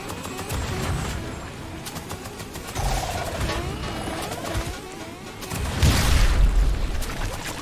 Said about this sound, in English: Okay. Ow! Okay, I hate these cannons.